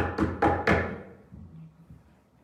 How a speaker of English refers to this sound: Can we hear the knock?